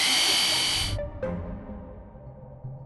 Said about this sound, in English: We have the world's best hand drill.